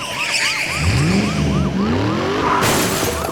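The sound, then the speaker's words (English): A loud truck engine roars as tires squeal in a skid midway across a bridge, followed by a sudden crunching impact of metal late in the sequence as a deputy's vehicle rams into the side of the truck, with no talking. “Somewhere about midway across, one of the deputies came ramming into the side of his truck.”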